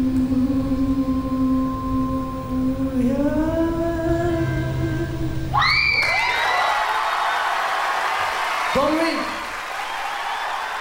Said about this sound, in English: You're okay with that kind of crowd noise in a live track, Steve? Yeah, exactly. And you get, you hear at one point, you kind of hear someone cough.